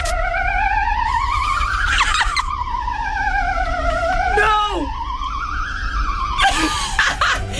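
A Belgian ambulance siren: a loud, warbling tone that glides slowly up and down with a wobbly, eerie quality, broken by a few brief noisy bursts. No one speaks.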